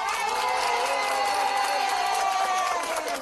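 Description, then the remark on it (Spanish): A crowd applauds and cheers in a steady, dense roar of clapping and voices that holds at a constant loud level for the whole stretch without a break. “¡Un aplauso!”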